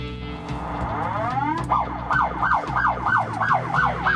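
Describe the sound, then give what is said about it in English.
The movie-accurate siren of a replica Mad Max police car winds up in a rising wail, then switches to a rapid, repeating yelp, loud over a low engine rumble, with no one speaking. “One of the other features of the car is it does have a movie accurate siren.”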